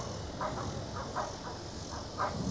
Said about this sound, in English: What the doggy say? Woof, woof, woof, woof, woof, woof. Hi. See the doggy? It's the doggy.